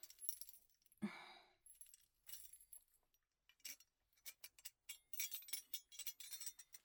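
Keys jangle and clink, a sharp metallic clack early on followed by bursts of light rattling and fiddling, as if working a small lock. No one speaks.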